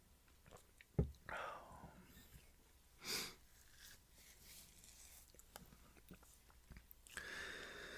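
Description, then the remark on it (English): A quiet sip of hot Four Sigmatic coffee, a short airy slurp, with a soft knock like a cup being set down and some light breathing and mouth sounds. “As I take a little sip of coffee, four sigmatic coffee, that is.”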